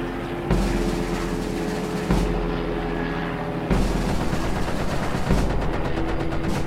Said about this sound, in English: Listen, gunfire. You're right. And it's getting closer, too.